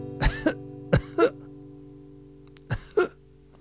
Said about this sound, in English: Then from my closed fist, there came a cough.